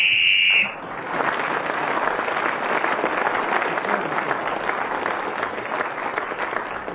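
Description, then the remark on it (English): A single short, shrill whistle blast, blown to end a player's turn in a game, sounds at the start, then gives way to steady applause from an audience that carries on for several seconds. “Kept going successfully till the whistle went, gained another point, and is now in the lead alongside Graham Garden.”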